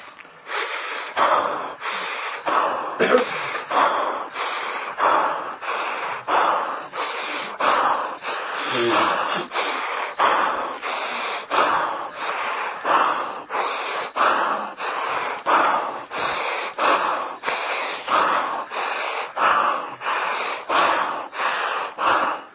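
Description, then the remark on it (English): Loud, rhythmic breathing from a deep energy breathing exercise repeats steadily, with forceful breaths about every second, from one person alone. The breaths are airy, hissing and slightly wheezy, in a continuous, driving pattern. “It's energy breathing. It's real breathing, you know. It's visible. You can hear it.”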